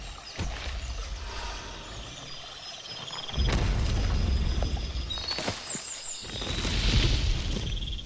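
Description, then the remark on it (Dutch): Deep, heavy booming thuds land a few seconds apart over a constant low rumble, like the ponderous footsteps of a huge approaching diplodocus unseen amid foliage on boggy ground in the rainy season, with faint high chirps flickering above. “En ook de diplodocussen hoor je nog voordat je ze ziet.”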